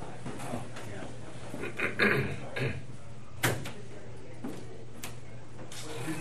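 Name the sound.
door being closed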